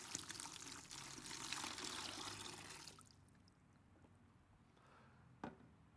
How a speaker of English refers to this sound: Kind of like the water going into this bucket.